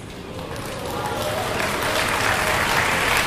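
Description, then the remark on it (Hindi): An audience claps steadily, a dense wash of many hands that swells slightly louder over about three seconds and keeps going without a break. “हाँ, या आपकी ताली की ध्वनि वसुदेव सुनते तो स्वागत करते क्या करताल ध्वनि का?”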